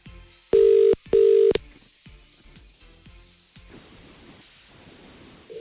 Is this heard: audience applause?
no